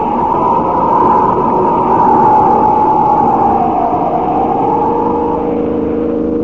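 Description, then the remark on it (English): A car roars along at speed, its engine loud, while a sustained tire squeal slides slowly downward in pitch as it skids around a curve. “Look at him skid around that curve.”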